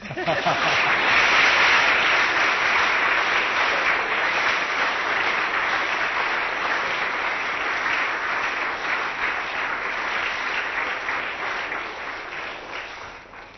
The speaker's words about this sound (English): Right, that is it. So if you'd all like to clap now.